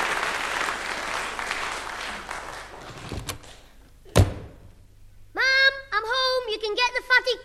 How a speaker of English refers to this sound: How often have I told you not to slam that door?